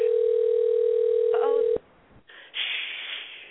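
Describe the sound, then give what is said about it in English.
A phone call placed live on Fantasy Radio, calling a guest again, rings out with one long, steady, mid-pitched ringback tone that cuts off abruptly with a click, followed by faint line hiss and then a louder burst of crackly noise. “Let's see if he'll answer again. I hope he don't think I'm playing on his phone.”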